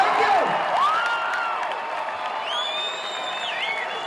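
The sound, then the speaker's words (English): A crowd at the end of a show cheers and applauds in a steady, dense roar of clapping and voices, with several shrill whistles and whoops sweeping up and down over the top. “To gauge the success of the show, all you have to do is listen to the crowd's appreciation.”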